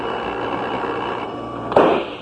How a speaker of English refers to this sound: A pistol shot, Craig. From inside the house.